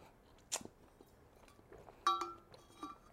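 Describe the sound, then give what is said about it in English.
Quiet chewing: a sharp crunch followed by soft scattered mouth noises, then a brief clinking ring and a few more faint crunches, with no talking. “Right, find me a category and I'll chew these mothers.”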